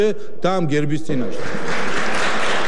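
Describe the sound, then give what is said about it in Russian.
Parliament speaker Papuashvili speaks briefly before sustained applause from lawmakers of his own party breaks in and drowns him out, a dense, steady clapping that continues loudly to the end. “Здесь спикера Папуашвили однопартийцы перебили аплодисментами.”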